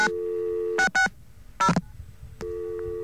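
A steady telephone dial tone is broken by three short keypad dialing beeps, two in quick succession and one after a pause, before the continuous tone returns. No one speaks.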